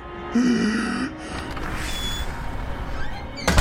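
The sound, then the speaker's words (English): A back door creaks open with a short, strained hinge squeal, followed by a few seconds of shuffling, rustling movement and a soft bump at the end. “My father opened the back door and walked towards the barn.”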